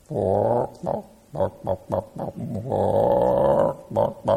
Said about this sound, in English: The clucking of a hen whose chicks may or may not listen to her. You ever notice the clucking of a hen?